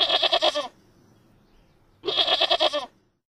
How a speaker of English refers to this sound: It's a goat.